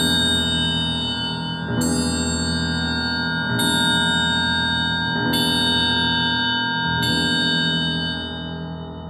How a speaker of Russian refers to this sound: Вдруг старинные часы замка стали медленно бить.